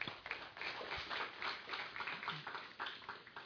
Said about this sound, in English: Would you welcome him with a round of applause, please?